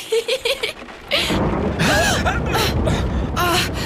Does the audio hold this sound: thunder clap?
yes